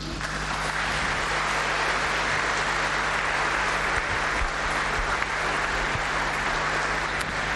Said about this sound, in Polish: Wielkie brawa, że jest za to, co robi. Myślę, że czujemy wszyscy, że trzeba dzisiaj jej podziękować.